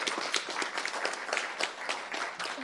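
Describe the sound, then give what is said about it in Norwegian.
An audience applauds a group after its presentation, many hands clapping in a dense, steady patter that stays fairly even in loudness throughout, with no voices standing out. “Applaus til gruppa.”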